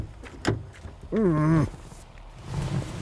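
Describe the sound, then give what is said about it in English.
A car door opens: a sharp latch click, then a drawn-out, wavering creak of the hinge lasting about half a second, followed by quieter rustling. “Let me get the door for you.”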